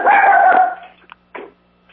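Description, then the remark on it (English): A dog gives one loud, drawn-out bark, followed by a couple of shorter, softer barks or yips, with no talking. “I and the dog do as well. We both speak out on this one.”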